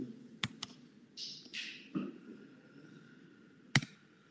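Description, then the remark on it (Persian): A few sharp computer keyboard clicks as someone types the title of the book Lost Connections by Johann Hari, two quick taps near the start and one loud tap near the end, with soft rustling and a low hum in between. No one speaks. “من جو تایپ کنم روابط از دست رفته.”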